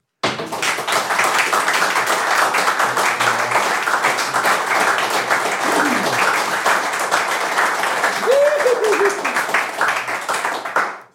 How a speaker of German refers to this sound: Eben, und bevor wir so weit sind, Applausprobe für die beiden Gäste.